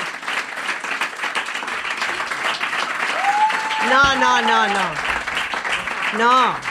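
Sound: audience applause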